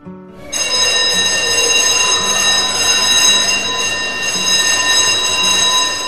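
An electric school bell rings loudly and continuously in a room, signaling recess for the students; a sustained metallic clang that starts abruptly after a half second of quiet and holds steady to the end.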